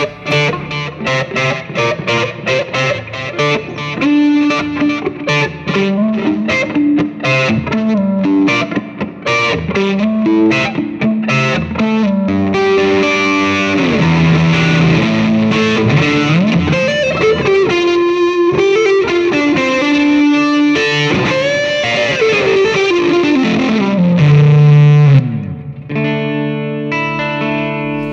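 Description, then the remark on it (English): A heavily distorted electric guitar, played through a Plimsoll pedal, plays a driving pre-chorus riff with chord stabs and sliding melodic lines, loud and sustained throughout, with no voices. “Love the plimsoll because you can just kind of rock the volume here and really just like this is the pre-chorus”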